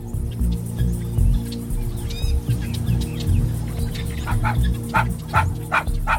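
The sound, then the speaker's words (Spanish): A small Chihuahua dog yaps and barks in a quick series of sharp, high bursts, growing busier toward the end, over a steady low rumbling background with no one talking. “Un cazador viajó a África y llevó a su perrito Chihuahua para no sentirse tan solo.”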